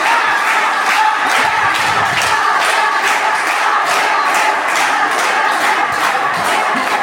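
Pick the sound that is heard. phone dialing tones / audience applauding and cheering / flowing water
audience applauding and cheering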